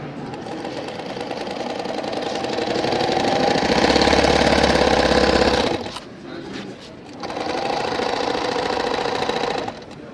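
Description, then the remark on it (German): A sewing machine runs loud, its needle punching holes through a paper culture magazine to draw on it, in a fast, steady rattle, pausing briefly near the middle before starting up again and running to the end. “Ich zeichne mit der Nähmaschine, mache Löcher ins Kulturmagazin und am Schluss ist dann das eine Weihnachtskugel, die man rausnehmen kann, weil es ist eigentlich perforiert und dann kann man so einen Weihnachtsbaum hängen.”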